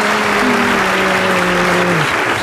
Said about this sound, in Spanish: Bravo, gracias. Qué grandes aplausos. Hoy vino una persona nada más al público.